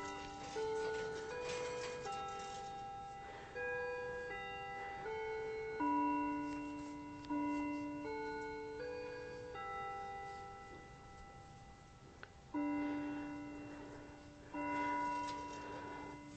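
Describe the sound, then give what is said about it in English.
A mantel clock that is not a wind-up clock plays a slow chime melody, with clear ringing bell-like notes sounding one after another and overlapping as they fade, moderately loud, with no talking. “That's our mantel clock over there. It's not a wind-up clock, but it sure sounds like it's a Howard Miller, and that's why I liked it, because it doesn't sound like a lot of those battery-operated clocks do.”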